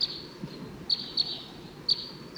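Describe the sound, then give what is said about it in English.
Wild male birds call from the nearby treetops in short, high-pitched chirps, several bright notes repeating irregularly over a soft, steady background hiss, with no voices. “Sounds like those wild birds are coming back.”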